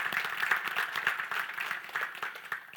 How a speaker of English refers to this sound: I think that God deserves a round of applause for that.